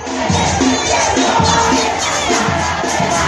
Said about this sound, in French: On les entend là, ces milliers de Salvadoriens crier leur opposition hier au président Nayib Bukele. Oui, comme ici dans la capitale San Salvador, les manifestants ont pu profiter du 200e anniversaire